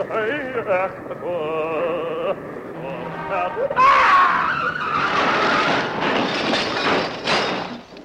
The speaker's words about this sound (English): You may hear some traffic noise. Pay no attention.